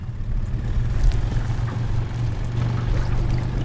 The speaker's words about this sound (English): Weighed down by thousands of pounds of frozen fish, a tender boat slowly motors up the cold, rainy Yukon.